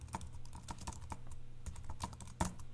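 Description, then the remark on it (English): Keys clatter on a computer keyboard in a quick, uneven run of clicks as a last name is typed into a field, ending with one sharper, louder keystroke as Enter is hit, over a steady low hum with no voices. “If I now come over here to this one and I say, put my last name in here and hit enter, you'll see the notification changed at the bottom saying it just got a notification the last name field changed.”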